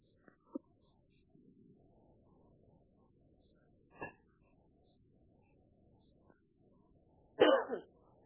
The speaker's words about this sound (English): Hi. I just coughed. Sorry. I didn't realize I was off mute.